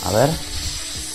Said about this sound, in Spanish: Sí, sí, sí, es de una víbora. Ese es el ruido de la yarará. Es una víbora que en este caso es venenosa y la gente de la región tiene que tener mucho cuidado en la construcción de sus casas